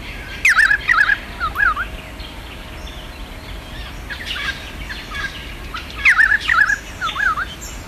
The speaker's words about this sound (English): And there's a lot going on there. There's a lot of birds. But the ones I could pick out were variegated fairy wren, little wattle bird, yellow-faced honey eater, pied currawong